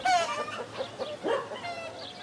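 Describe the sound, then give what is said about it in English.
Chickens cluck and squawk in a short run of overlapping calls, clear, with a rising harmonic cry near the start and no one speaking, at smallholdings with chickens and goats by village houses with vegetable gardens along back roads. “Then I took a wander around the back roads, past villagey houses with vegetable gardens and small holdings with chickens and goats.”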